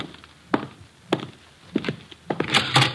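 Dull thuds against a door, three spaced-out knocks followed by a quicker cluster of heavier bumps at the end, with no voices.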